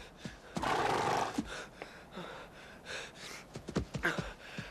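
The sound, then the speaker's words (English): A horse whinnies in a loud, breathy burst, followed by several short snorts and huffs scattered over the next few seconds, with no one speaking. “How would you like it if I made you a present of this fine horse?”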